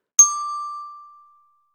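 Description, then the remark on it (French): A single bell chime, the signal in a French reading lesson to repeat words, rings out with a sharp strike, then a clear, steady mid-high tone that slowly fades over about a second. No voices. “Au son du timbre, relis les mots après moi.”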